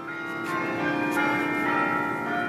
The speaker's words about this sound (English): And of course, I had my cell phone with me, so I did. I stood there for quite a long time taping and listening, and I've always loved bells, and the bigger the bell, the mightier the sound.